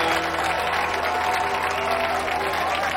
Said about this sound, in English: The crowd applauds.